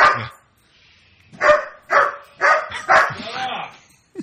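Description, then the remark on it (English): A dog in the background barks in a quick run of four or five sharp, loud barks at an even pace, followed by a brief whiny, drawn-out yelp as the barking trails off. “Sorry, we got a dog emergency in the background.”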